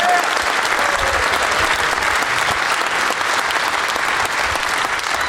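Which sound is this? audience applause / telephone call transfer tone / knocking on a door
audience applause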